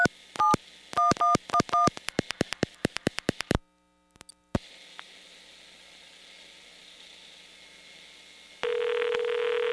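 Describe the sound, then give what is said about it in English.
A rapid string of touch-tone dialing beeps with clicks as a call needing a coin deposit is dialed again, a brief silence, then steady line hiss, and finally a continuous low telephone tone sounding near the end. No one speaks. “Please hang up momentarily, listen for dial tone, deposit the required coin, and dial your call again.”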